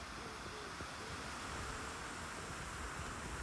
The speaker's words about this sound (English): It feels pretty bleak today with the drizzle falling around us.